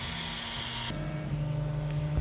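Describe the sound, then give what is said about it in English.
A 3D printer warming up to over 200 degrees Fahrenheit before printing, in a workspace shared with roommates: a steady electric hum and fan whir, its low tone shifting and strengthening partway through, with a faint click near the end. No voices. “You can hear the printer starting to warm up, getting ready to print.”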